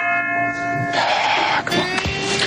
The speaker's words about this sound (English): What was that bell? Ding, ding. They need to calm down with the sound effects there.